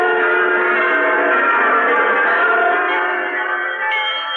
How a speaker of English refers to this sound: Hundreds of bells, thousands of bells, tens, perhaps hundreds of thousands of bells. From the clear, joyous village bell, as pure as virgin landscape, to the majestic choirs cast in bronze of the big city cathedrals.